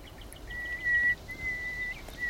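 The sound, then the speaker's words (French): A male nightingale's position call, given in response to whistling and opening its song: a series of long, steady, pure whistled notes, each held for about half a second with short gaps, moderately faint over a soft background hiss. “Alors il commence toujours son chant par son cri de position, et après il décline son identité, il donne son âge. Je suis un rossignol, ouais.”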